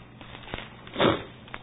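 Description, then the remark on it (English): A single short, breathy sniff through the nose, fairly clear, with a couple of faint clicks around it and no talking. “It's hard to do a lesson when you just barely want your nose not to sniff here.”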